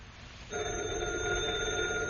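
After a brief hush, a telephone bell starts ringing loudly and close by, a steady, continuous metallic ring that sustains to the end with no voices.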